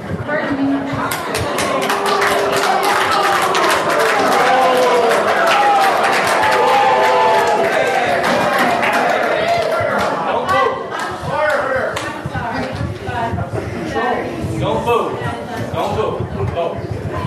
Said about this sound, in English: Over the din of the crowd, you could hear … urging the audience not to boo, but to vote.